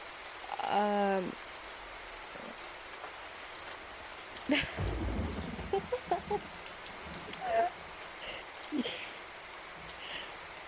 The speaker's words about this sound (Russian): Погодка и правда может быть прекрасная только тогда, когда идет дождь. Он мне не страшен, если что.